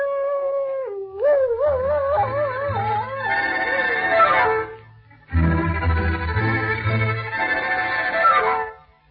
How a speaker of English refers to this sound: My people say that when a dog howls, he is mourning because there is death in the air.